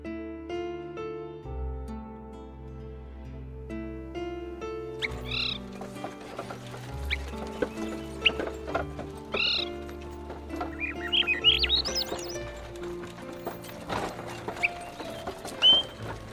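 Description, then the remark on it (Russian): Bright bird chirps and trills ring out repeatedly over soft, sustained background music in a June birch forest, growing busier toward the end with several birds calling at once; part of a radio play of Mamin-Sibiryak's story 'A Piece of Black Bread'. “Березы радуются летнему наряду, птицы щебечут одна звонче другой.”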